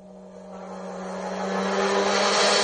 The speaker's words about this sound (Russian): Тогда волк начал дуть.